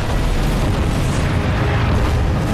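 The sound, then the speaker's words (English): Massive explosion blasts destroy a palace, roaring continuously with heavy low-end rumble and crackling debris, loud, filling the whole stretch without pause. No voices. “The Sphinx Palace is destroyed by huge blasts.”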